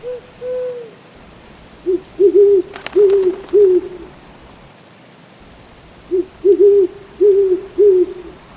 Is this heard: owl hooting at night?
yes